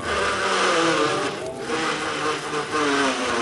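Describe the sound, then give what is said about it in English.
A car engine cranks and revs with a harsh, grinding mechanical whine, loud, running steadily for a few seconds with shifting tones as gears scrape together while the car, fitted with a new drive, is started and shifted to be parked in a parking space. “Yeah, well, start it up and put it in the spot there.”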